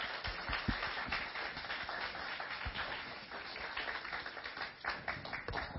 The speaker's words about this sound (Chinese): 我们拍手热烈的欢迎他。